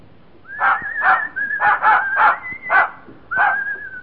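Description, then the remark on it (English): A dog in the radio play All This and Heaven Too gives a string of short, sharp barks mixed with a high, thin whimpering whine that runs between them, excited and fairly loud, with no voices. “Hello, Pooch.”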